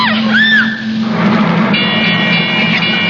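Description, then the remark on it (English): A ship's engines grind into reverse in thick fog, a steady low mechanical drone running throughout, with shrill whistling tones sweeping above it early on and thin high pitched tones sounding later. “Sounds like they reversed the engines.”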